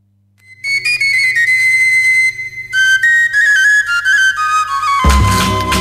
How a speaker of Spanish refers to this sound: Bueno, ya hemos visto, hemos escuchado a esta sevillana tan, tan bonita, tan alegre, y como se hacía la sevillana antiguamente, con palillos, palmas y eso, un tambor, una guitarra y nada más, ¿eh?